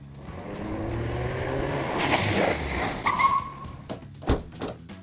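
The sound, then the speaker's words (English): A car engine revs loudly and pulls away, tires squealing sharply around the midpoint, followed by a few clunks and thumps as it speeds off. “Kenny, go get your car. Pull up to the front door.”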